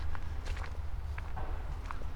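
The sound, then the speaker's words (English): Footsteps walking through a forest, a steady series of soft crunching steps, several in a couple of seconds, over a low continuous rumble with no one speaking. “Alright, let's start walking through the forest here.”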